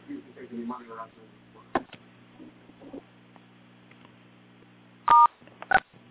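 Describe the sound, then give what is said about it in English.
Two short telephone keypad tones beep in quick succession near the end as someone presses *6 to unmute their phone, loud and clear over a phone line, after a stretch of faint, muffled talking and quiet line hum. “So anybody who feels like sharing something, please unmute your phone, press that *6, and then just let us know who you are and where you're from, and then whatever you feel like saying.”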